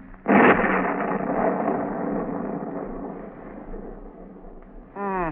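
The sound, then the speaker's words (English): A sudden loud crack of thunder from an approaching storm breaks out, then rolls on as a long, gradually fading rumble for several seconds before a voice starts speaking at the very end. “Storm is coming up stronger now.”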